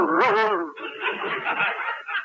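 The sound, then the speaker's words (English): A man imitates a dog, letting out a short, whiny voiced yelp followed by rapid, breathy panting sounds, fairly loud with no words spoken. “do you realize you're even getting to sound like a dog?”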